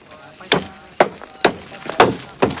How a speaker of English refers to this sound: Rambo fixes a large wooden wheel to an upturned cart, then hammers it in place.